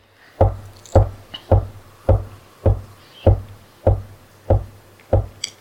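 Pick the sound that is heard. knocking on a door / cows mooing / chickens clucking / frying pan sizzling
knocking on a door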